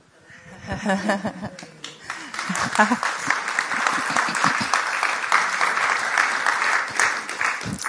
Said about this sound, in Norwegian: Hvis det det jeg gjorde 6. mai for en måned siden dere klapper for, så tar jeg det imot.